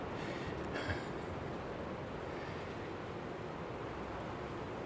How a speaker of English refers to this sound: Oh, what a wonderful echo from the choo-choo.